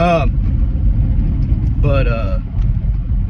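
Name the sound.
car interior noise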